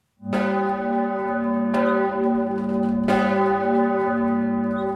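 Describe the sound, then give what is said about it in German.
Loud church bells of the Benediktuskirche ring out over the Domberg in Freising with three clear strikes roughly a second and a half apart, their deep humming tones sustaining and overlapping throughout, with no voices present. “Die Glocken der Benediktuskirche erschallen über dem Freisinger Domberg.”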